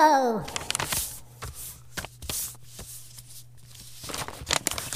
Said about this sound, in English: That's right. Zaga is folding up the letter and putting it in an envelope.